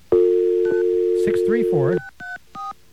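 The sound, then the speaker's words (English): A steady dial tone hums while a run of short DTMF keypad beeps punches in a phone number, several quick tones in an uneven rhythm, with brief voice-like warbles mixed in before the last few beeps. “And now, what happens if we dial that number?”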